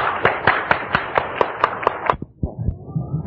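Steady, evenly spaced clapping rings out for about two seconds, sharp and fairly close, then stops as a low murmur of voices and room noise takes over.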